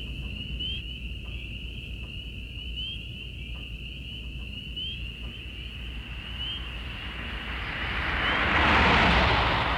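Crickets, katydids and peepers chirp steadily in a continuous outdoor chorus on a country night after sundown, over a low rumble, while a broad whooshing noise of a passing airplane swells loudly near the end.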